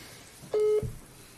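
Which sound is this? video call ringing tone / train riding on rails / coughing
video call ringing tone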